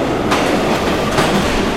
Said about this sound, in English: This is a subway station. This is a Subway sandwich shop. Can you tell the difference? Subway station.